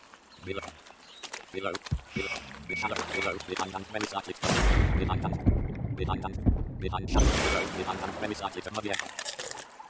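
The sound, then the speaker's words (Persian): Several short, high electronic beeps from a video game, signaling that an item has dropped nearby, repeat at intervals, fairly faint beneath a person talking, with a burst of rushing, bubbling water noise partway through. “بعد به وقتا یه صدای بیپی میشنوین که الان پخش شد اینجا.”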